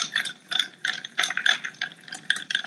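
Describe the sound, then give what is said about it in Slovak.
A bar spoon stirs a cocktail of Cocchi Americano, sweet red vermouth and Beefeater London dry gin over ice, giving a steady run of bright clinks and rattles in quick rhythmic bursts, with no talking. “S tou metou si to vystýrujem.”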